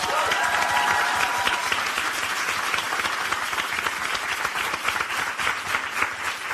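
An audience applauds steadily for several seconds, a dense, even wash of many hands clapping at a fairly loud level, with a few brighter cheers or whoops rising briefly near the start.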